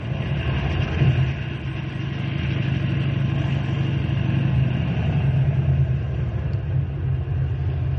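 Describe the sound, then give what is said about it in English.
A car, being brought around to the front, idles in a steady, unbroken low rumble, its deep hum holding an even loudness throughout with a faint higher whir on top. No one speaks. “Henry, bring the car around front.”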